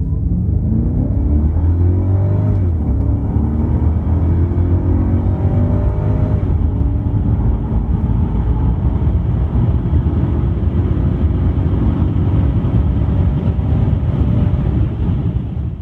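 The engine of a 500E car roars at full throttle, a loud, continuous low growl whose pitch climbs with each gear, sweeping upward early on and again midway, with no voices.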